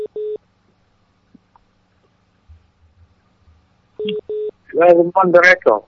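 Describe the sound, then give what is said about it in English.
Short paired bursts of a steady telephone tone sound twice, like a ringback signal on an incoming phone line that rings and then cuts off, with a quiet gap between; a voice starts talking right after the second pair. “The lines are coming in, but they are cutting. They come in, they ring for a few minutes, and they disappear.”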